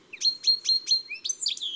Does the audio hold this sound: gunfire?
no